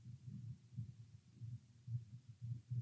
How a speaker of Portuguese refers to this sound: Sentir alterações dos seus batimentos cardíacos, gostaria de uma água?